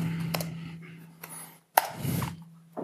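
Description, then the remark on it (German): Computer keyboard typing while restarting a computer: a handful of sharp, irregularly spaced key clicks and clacks over a faint steady electrical hum, with no talking. “Tippen ist schneller als klicken.”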